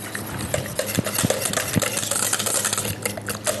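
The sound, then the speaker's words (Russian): Pancake batter being stirred briskly in a bowl, with a steady run of wet scraping and light utensil clinks against the sides, no voices. “взбить тоже, кто вот тогда вот тоже вообще, ну, если большее количество, так.”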